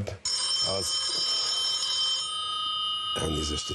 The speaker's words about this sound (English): There's a bunch of parties that ran in this election, and this candidate was from a satirical political party called the Two-Tailed Dog Party. During his 5 minutes, in the middle of his speech, he got a call on his cell phone.